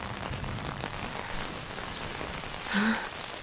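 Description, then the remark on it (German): Steady rain from a nearby thunderstorm directly over a small wood hisses without a break, a dense, even wash of noise that swells slightly just before the end. No voices are heard. “Das ist nur ein nahes Gewitter. Muss direkt über dem Wäldchen sein.”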